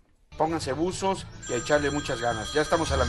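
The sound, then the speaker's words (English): A telephone rings continuously with a bright, steady bell-like tone in a basement in rural Abbotsford, Wisconsin, beneath a man talking loudly as he announces on the internet radio station El Primerito, the ringing partly masked by his voice throughout. “The phone is ringing off the hook in a basement in rural Abbotsford.”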